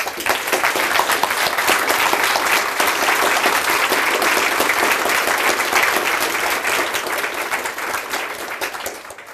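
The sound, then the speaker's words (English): An audience at the WikidataCon conference applauds steadily for about nine seconds for the event's photographer, a dense, sustained wash of many hands clapping at a fairly loud level, tapering slightly at the very end. No one speaks. “So special applause for our photographer.”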